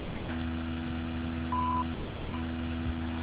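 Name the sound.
voicemail recording beep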